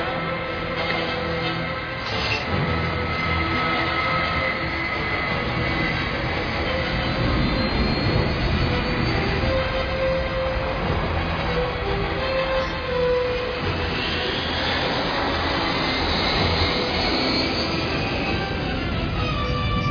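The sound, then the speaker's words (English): A loud, steady roar of jet engines running, with a dense mechanical rumble and faint whining tones holding constant for the whole stretch, with no voices. “We gotta get on that plane.”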